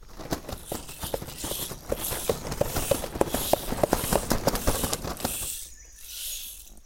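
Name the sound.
children running footsteps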